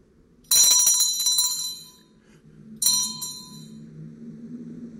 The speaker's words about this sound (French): Et ma sonnette ne fait pas assez de bruit.